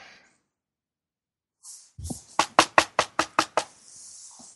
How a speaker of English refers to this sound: I shall hear a knocking. There's a knocking at the front door.